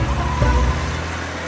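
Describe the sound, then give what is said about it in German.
A silver car's low engine rumble pulls away, the deep drone fading over a second and a half against a steady outdoor hiss, with no voices. “Hastig steigt er in seinen silbernen Wagen.”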